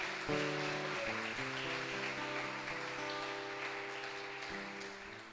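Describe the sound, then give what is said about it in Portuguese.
A crowd claps steadily for several seconds in applause for Jesus, a dense, even wash of applause, while sustained keyboard chords play underneath; no one speaks. “Se você crer, dá uma salva de palmas a Jesus.”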